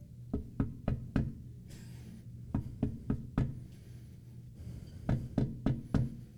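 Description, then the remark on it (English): Steady knocking on a door in three groups of four even raps, separated by short pauses, moderately loud, over a faint low hum. “Some of the commentary I read described this as a gentle and persistent knocking.”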